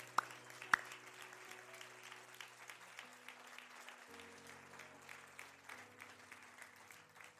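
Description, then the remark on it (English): An audience claps steadily in a sustained wash of applause for the Lord after a prayer, with sustained organ or keyboard tones shifting underneath and a couple of sharp louder claps near the start. “Would you just give the Lord a round of applause?”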